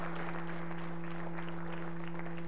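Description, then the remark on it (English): A church audience claps together in praise to the Lord during a sermon, a dense, continuous wash of soft applause, with a steady low electrical hum running underneath and no voices. “Now everybody give the Lord a hand clap of praise, because I'm about to bless you.”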